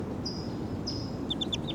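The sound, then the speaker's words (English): A wild bird calls in the distance with thin, high whistled notes, a couple of long tones followed by quick short chirps, over a steady low rumbling background. “And the wild bird's calling in the back.”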